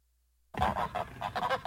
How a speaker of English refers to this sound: Two out of three geese. Six out of seven seagulls.